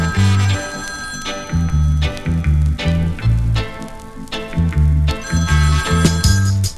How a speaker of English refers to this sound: When me take a stop, me say me hear the phone ring.